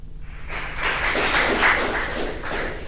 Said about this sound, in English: Please give him, welcome him with a big round of applause.